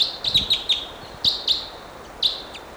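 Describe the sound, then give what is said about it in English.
A wild bird gives a run of short, high chirps in quick bursts, several notes clustered together, then pauses and chirps again, fairly loud over a faint background hiss with no talking. “Still pointing at these wild birds.”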